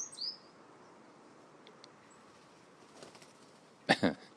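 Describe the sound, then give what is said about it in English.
A blackbird flies past on a cold, windy morning in Cashel, Ireland, on New Year's Day 2013: two quick, loud bursts of wingbeats whoosh by near the end, after a brief high chirp at the start over steady outdoor hiss. No one speaks. “As is, you just heard, supersonic Mr. Blackbird.”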